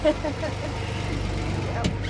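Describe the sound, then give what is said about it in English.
A fishing boat engine starts and rumbles steadily as the boat is driven out of the harbor, a deep, even mechanical drone with a low throbbing pulse and no pauses, briefly joined near the end by a short burst of hiss. “Sounds good when it starts. The Frys drive the boat out of the harbor.”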